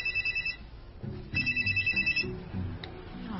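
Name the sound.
telephone ringing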